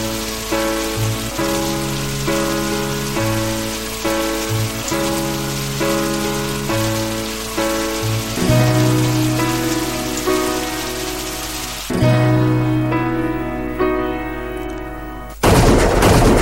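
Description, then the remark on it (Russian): Steady rain patters on a surface as a constant hiss beneath slow, sustained melodic music, ending with a sudden louder burst of rushing noise. “Такие дождливые вечера у человека бывает эмоциональный срыв.”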